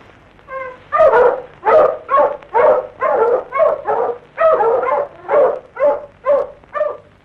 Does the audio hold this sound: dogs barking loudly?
yes